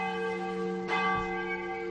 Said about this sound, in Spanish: Con este sonido tan reconocible, contamos la leyenda de la campana, José.